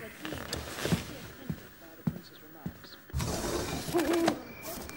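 A barn owl gives a harsh, hissing screech lasting about a second, loud and raspy, with softer murmuring and rustling before it.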